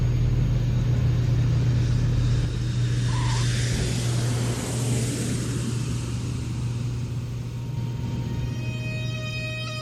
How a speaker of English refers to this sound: And the plane is landing.